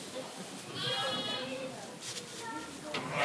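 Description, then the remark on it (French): A lamb bleats, two shaky, quavering cries in quick succession, as a mark is put on it, with faint voices and farmyard bustle in the background. “Alors on fait une marque sur l'agneau. Comme ça, on va pouvoir repérer sa mère aussi.”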